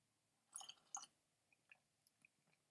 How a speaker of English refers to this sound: So, just going to have a sip of tea at this point. Cheers.